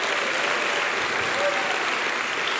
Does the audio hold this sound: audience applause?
yes